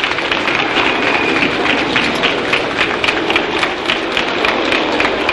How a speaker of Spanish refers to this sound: Y ahora entra. Son los aplausos de los espectadores.